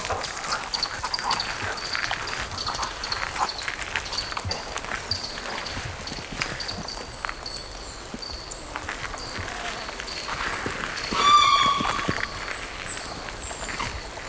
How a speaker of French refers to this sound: Ce parc verdoyant, des oiseaux, des gouttes de pluie, un coq, des chiens.